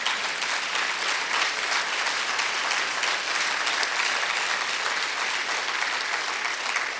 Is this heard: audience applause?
yes